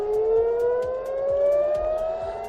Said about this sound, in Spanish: Las sirenas han vuelto a sonar en ciudades como Tel Aviv, ya que la Guardia Revolucionaria iraní ha atacado puntos como el aeropuerto de Ben Gurión y objetivos de Israel como centros de investigación biológica y bases logísticas.